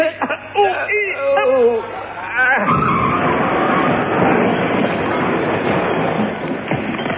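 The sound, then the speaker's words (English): Straining, grunting voices give way to a loud, sustained crashing roar as a lorry loaded with scrap iron is thrown into a deep smelting pit, grinding and rumbling on for several seconds. “It ought to be. That was a lorry.”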